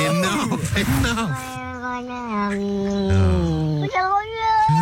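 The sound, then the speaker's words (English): Two cats trade long, drawn-out meows, their wavering, plaintive calls overlapping and sliding in pitch, one sounding mournful as the other answers loudly. “He sounds so sad, the first cat.”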